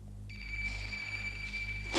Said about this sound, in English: As the message passes to Brentwood Substation 17, the sub-officer sets in motion a call-out by sounding the station's alarm system, which, once heard, brings all activity to a halt as the fire station's firemen race to their two appliances